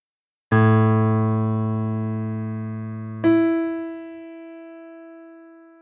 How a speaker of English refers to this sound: Question 10, first time. You will hear two tones. Is the second tone higher or lower than the first tone?